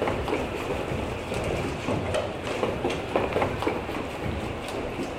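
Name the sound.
train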